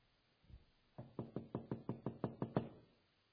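A soft thump, then a quick, steady run of about nine sharp knocks on a hard wooden surface, fairly loud, with no voices.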